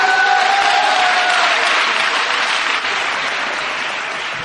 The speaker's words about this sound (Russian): Кто действительно счастлив, что он во Христе Иисусе сегодня? Давайте мы дадим ему аплодисменты большие.